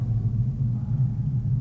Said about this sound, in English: Jake LaMotta is about to get knocked out by Sugar Ray Robinson, and there's just a shot of Sugar Ray standing there, and it gets very quiet. There's sort of a rumbling, hissing sound.